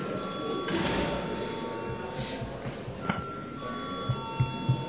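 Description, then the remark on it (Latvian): An electric voting bell rings steadily and continuously for several seconds during a parliament session before a vote on a bill, a bright sustained tone over a low murmur, with a few soft knocks near the end. “Paldies, lūdzu zvanu.”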